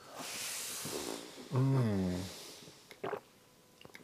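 A breathy slurp as someone sips a drink from a glass to moisten the lips, then a pleased humming 'mmm' and a few small clicks like a glass being set down.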